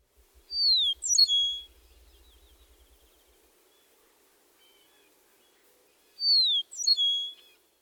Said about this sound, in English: Also, listen for a distinctive guttural phrase at the end of the meadowlark song.